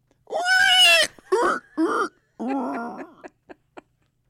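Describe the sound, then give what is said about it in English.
A person imitates a pig: a loud, shrill squeal, then several shorter strained grunts and squeals, ending with two quick snorting clicks. No talking. “I'm glad to say that I squealed like a pig”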